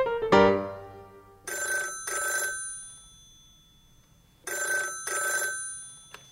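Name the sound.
telephone ringing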